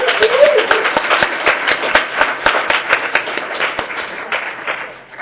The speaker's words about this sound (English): And I mean, I think that one more either hooting and hollering or round of applause is necessary right here. Thank you so much.